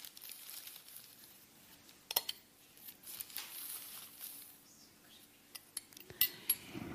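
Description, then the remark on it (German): A spoon scrapes and taps against a glass of water as two tablespoons of charcoal powder are scooped in, with scattered sharp clinks and soft gritty rustling over several seconds, and no voices. “Und wir machen 2 Esslöffel Holzkohle hinein.”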